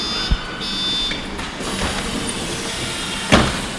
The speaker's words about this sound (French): On va surbaisser le bus.